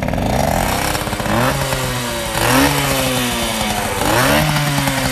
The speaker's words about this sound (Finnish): Kyllä mä pahemmankin kuulosin kuullut jossain. Ei sitä tyhjäkäynnillä kuule, mutta sit kun antaa kierroksia, niin sit se huomaa ainakin kunnolla. Anna kierroksia vähän.